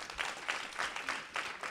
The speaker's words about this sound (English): Before we get to the questions, let's give it a round of applause for that.